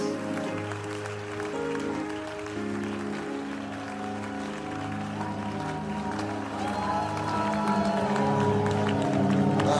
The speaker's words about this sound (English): Clap unto Jesus.